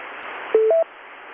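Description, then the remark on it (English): Simulated radio static from a paid service that is not connected to any radio and fakes a conversation on a band: steady, thin static hisses throughout, broken midway by two short electronic tones, one lower then one higher, before the hiss carries on alone. No one speaks. “It's not connected any place to a radio, and they set up where you can talk to another person who's paying for the service, and they inject fake QR Nancy and QR Mary and static to simulate a conversation on a band.”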